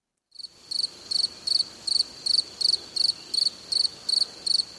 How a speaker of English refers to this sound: That's the sounds of crickets and grasshoppers.